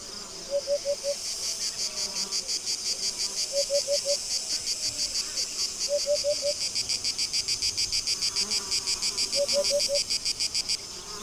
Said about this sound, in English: The day is drawing to a close, and one can still feel the suffocating heat in the air. This sensation of dryness comes with the usual summer symphony made by the sound of cicadas.